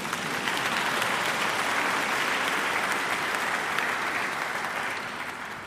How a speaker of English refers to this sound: Yes, you can clap if you want, by the way.